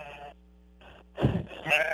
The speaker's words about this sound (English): The sheep are making noise here. Let me get away from them.